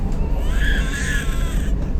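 A child crying in one drawn-out, high-pitched wail lasting about a second, over a steady low rumble of background noise.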